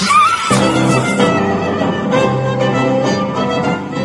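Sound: imitated horse neigh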